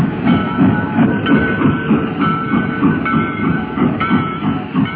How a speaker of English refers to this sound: The funeral train on the track that leads back home to Paducah.